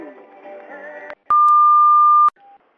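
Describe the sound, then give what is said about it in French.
A brief burst of muffled sound cuts off, then a single steady electronic beep, the message-line beep of Radio Diwa, sounds for about a second at one pitch, loud and clean, like an answering machine tone, followed by a faint short tone. “Bonjour le BIP, bonjour les auditeurs de Radio Diwa”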